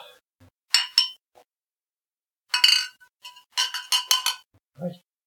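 glasses clinking

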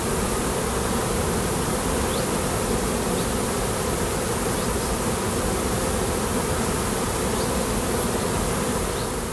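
bees buzzing at beehives

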